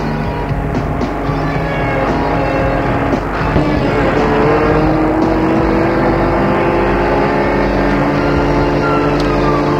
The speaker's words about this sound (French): La voiture file, file.